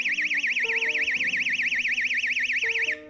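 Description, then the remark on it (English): A piercing portable personal alarm wails continuously with a rapid warbling pitch sweep, loud, while lower muffled tones shift underneath before it cuts off near the end. “And I have this little portable alarm.”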